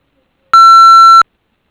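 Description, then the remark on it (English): A single steady electronic voicemail beep after a business's answering message asking callers to leave their name, number and brief message, clear and loud, holding one pure tone for just under a second before cutting off sharply into silence. “So at the beep, please leave your name, number, and brief message.”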